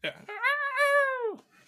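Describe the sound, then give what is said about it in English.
During a trivia quiz, a person mimics a quiz buzzer with their voice: one loud, nasal, steady-pitched tone held for about a second, framed by brief breathy vocal sounds at the start and end. “I have my buzzer. I just wanted to make the noise myself.”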